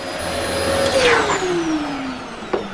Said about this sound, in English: You put all the furniture into the middle, and then hoover in spaces where they have been, and then you put everything back, and then hoover in the middle again, and really take time.